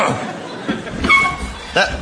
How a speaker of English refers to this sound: That door, you need a bit of WD-40 on that.